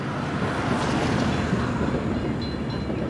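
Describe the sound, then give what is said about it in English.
A Burlington Northern Santa Fe Railway freight train rolls through downtown Flagstaff with a steady, heavy low rumble and broad rushing noise, loud and continuous throughout, with no voices. “About 100 times a day, a train pulls through downtown Flagstaff, the Burlington Northern Santa Fe Railway, along the same lines in which the legendary Atchison, Topeka, and Santa Fe opened the West for millions of American visitors”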